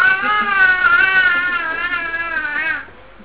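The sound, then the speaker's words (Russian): A baby cries loudly in one long, unbroken wail. The pitch wavers as it goes, and the cry cuts off near the end with no one talking. “Если у меня ребенок кричит так полночи, то я потом что днем должна делать?”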